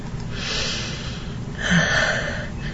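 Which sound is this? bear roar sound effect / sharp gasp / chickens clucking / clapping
sharp gasp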